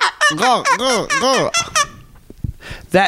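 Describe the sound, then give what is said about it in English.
A person imitates a baby bird with a quick burst of loud, high-pitched peeps, each rising and falling, then trails off into softer breathy sounds and one last chirp. “And I'm doing like this, like a baby bird.”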